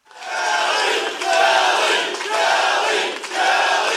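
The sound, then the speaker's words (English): A large crowd chants Republican Kelly Ayotte's name in unison during her victory speech after she won the New Hampshire governor's race, loud and sustained, the voices rising and falling in repeated phrases roughly once a second, with no single speaker standing out. “The crowd chanted Republican Kelly Ayotte's name during her victory speech last Tuesday.”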